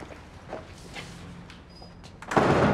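A woman opens a door for a man after a few soft clicks and handling noises, ending in a louder rushing, scraping swell as it swings open. No one speaks.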